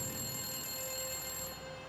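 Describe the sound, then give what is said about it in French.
A public telephone rings at exactly 7 p.m. with a call from kidnappers, a steady, continuous bell-like tone that holds at an even level for the whole moment, with no voices over it. “Le téléphone se mit à sonner à 19h précises quand le père d'Amy arriva.”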